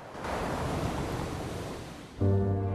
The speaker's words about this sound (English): A stormy day. The best time to look is after a storm, when a strong sea has moved sand and shingle and perhaps revealed the rocks beneath. He trudges over the stony beach as the waves crash in.